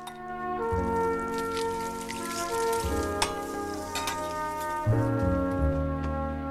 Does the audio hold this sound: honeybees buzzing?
no